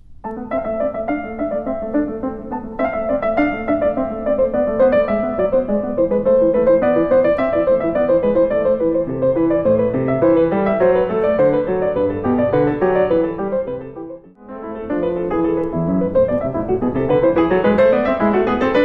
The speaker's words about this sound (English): And this comes from Bach. We're going to hear the last two sections of the English Suite, number two. A couple of bourrées and a gigue, I believe, mm-hmm.